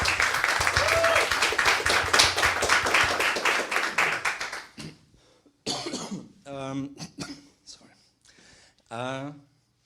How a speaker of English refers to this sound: So I think there we can applaud.